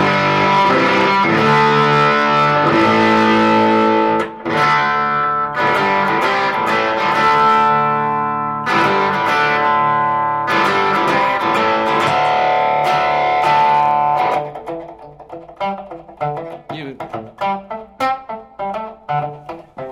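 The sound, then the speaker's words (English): Electric guitar run through effects pedals, ringing out thick, sustained overdriven chords with a smooth top, then shifting to lighter, choppier picked notes near the end. No one speaks. “the thing about these pedals, nothing sounds grainy at all to me.”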